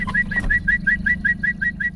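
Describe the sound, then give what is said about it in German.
A man whistles a rapid series of short, bright bird-like chirps, about a dozen evenly spaced notes, imitating a bird call over a steady low rumble. “Unzählige Vogelstimmen kann er perfekt nachahmen.”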